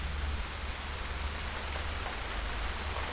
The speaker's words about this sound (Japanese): 雨の中で一人の少女が泣いていた。公園のベンチに座って傘もささずに、土砂降りの雨は彼女の泣き声さえもかき消していた。